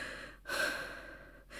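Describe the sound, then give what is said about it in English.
Heavy, audible breathing from an English professor: a strong, airy breath that swells and slowly fades over about a second, followed by the start of another. No talking, just broad breathy noise. “Why am I breathing like that?”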